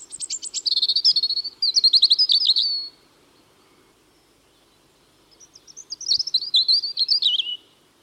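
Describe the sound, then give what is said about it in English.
A European robin sings its territorial song: two clear bursts of high, warbling, trilled phrases separated by a short pause, bright, with no talking. “The robin is one of the most familiar birds of the UK, regularly visiting gardens.”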